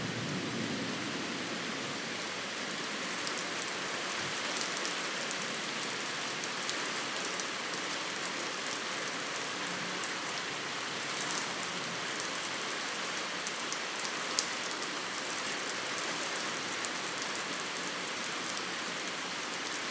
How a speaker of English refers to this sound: And here's the rain. And wind.